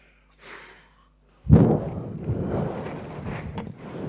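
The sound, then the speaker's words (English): A CPAP breathing machine for sleep apnea, used every night during sleep, runs with a steady rushing hiss of air that starts abruptly after a faint breath-like puff and keeps going with a low, fluttering rumble. “This is a machine that I use every night.”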